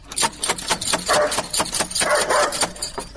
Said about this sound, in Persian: اوه چی یک سگ خطرناکی داره ای.